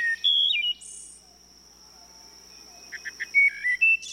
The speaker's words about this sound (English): and shady woodlots will once again echo with the flute-like music of the wood thrush.